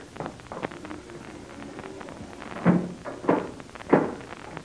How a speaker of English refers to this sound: Captain Blaze, you will close and lock that door as it was before. Be quick.